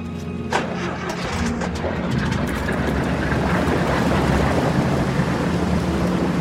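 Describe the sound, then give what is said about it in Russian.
Bandits start the engine of a motor launch: it cranks with a few sharp bursts, then catches and settles into a steady, loud low rumble as the boat pulls away, with no voices. “И в это время бандиты заводят мотор баркаса и трогаются.”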